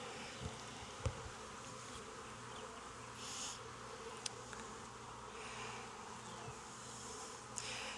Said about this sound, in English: This could use a shake of some nurse bees. There's a lot of bees in the bottom too.